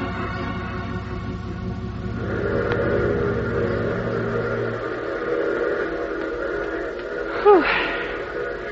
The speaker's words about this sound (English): Well, at least the train seems to be on time.